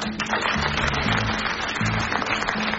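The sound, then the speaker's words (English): Steady, dense applause from a crowd, a continuous crackle of many hands clapping at an even loudness, with a low tonal hum running underneath throughout. “And for that, I applaud all of you.”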